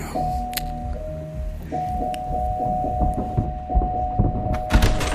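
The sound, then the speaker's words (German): A doorbell rings as a long, steady electric buzz that breaks off briefly and then continues, with shuffling and light clattering. “Komm, klingel mal.”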